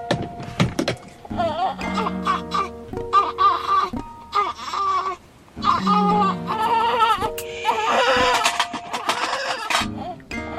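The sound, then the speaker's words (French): A newborn baby cries in repeated wailing bursts with short breaths between them, loud and strained, while lying on its mother, with some faint background noise. “Je suis en train de manger de la chocolade avec un bébé qui pleure sur moi et en train de me faire recoudre la vulve en même temps.”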